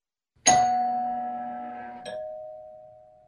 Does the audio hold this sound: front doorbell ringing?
yes